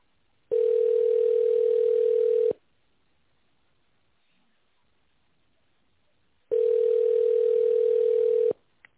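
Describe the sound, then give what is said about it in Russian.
A telephone ringback tone while on hold on a call to the Okhrana Kapitalnykh Stroeniy Dalnego Vostoka group of companies: two long, steady mid-pitched buzzing tones about two seconds each, separated by a four-second silence, with no voices. “Вы позвонили в группу компаний «Охрана капитальных строений Дальнего Востока». Наберите добавочный номер или дождитесь ответа секретаря.”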